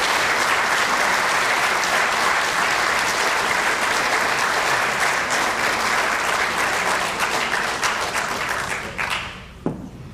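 An audience breaks into loud, sustained applause for two people, one of them celebrating a birthday, a dense wash of many hands clapping that holds steady for about nine seconds before quickly dying away.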